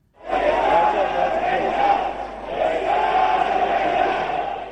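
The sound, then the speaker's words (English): A large crowd in Tehran, Iran, roars and chants continuously to greet newly elected president Masoud Pezeshkian, a dense wash of many voices rising and swelling in loud, steady waves of jubilant shouting and cheering. “Where a jubilant crowd in Tehran greeted the newly elected president, Masoud Pezeshkian, who gave a short address at the shrine of the founder of the Iranian Revolution.”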